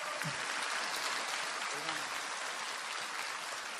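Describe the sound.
Audience applause: a dense, steady wash of many hands clapping that holds at an even loudness for about four seconds, with a faint voice briefly audible beneath it.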